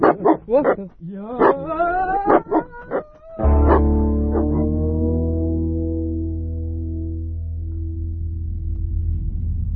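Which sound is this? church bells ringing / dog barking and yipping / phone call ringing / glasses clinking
dog barking and yipping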